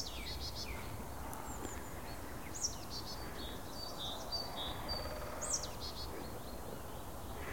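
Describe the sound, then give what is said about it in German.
Short, harsh bird calls sound repeatedly, a tit scolding in alarm at a person standing around, at dusk, over a steady rustling outdoor background with no talking. “Ja, die Meise schimpft ein bisschen, weil ich hier rumstehe.”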